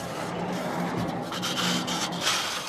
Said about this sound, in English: Just outside of Benton City, Washington, Kevin Judkins slides open the door on one of his massive, bitterly cold greenhouses.